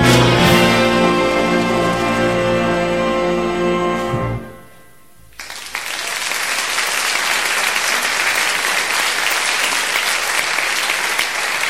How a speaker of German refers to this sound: Viel Beifall für die Big Band der Städtischen Musikschule, live aufgenommen im vergangenen November in der Brunsviga, hier durch uns, durch Radio Okerwelle.